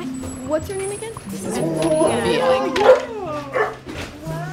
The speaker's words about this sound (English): The dogs are coming.